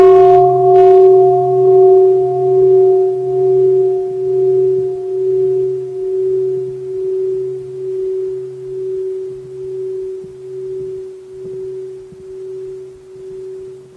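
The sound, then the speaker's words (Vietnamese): A single mindfulness bell is struck once, then rings on with a steady, pure tone and a slow, pulsing wobble that fades very gradually over many seconds. No one speaks. “Tại vì khi tất cả mọi người đều tuân thủ và nghe tiếng chuông thì năng lượng tập thể rất là lớn.”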